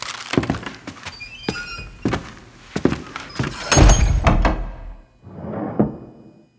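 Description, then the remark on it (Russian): A door swings shut with a heavy, solid thud, preceded by a few sharp knocks and clatters, then a softer muffled bump. Fairly loud, with no voices. “Чуть только закрылась дверь, как все сразу же легли на свои места.”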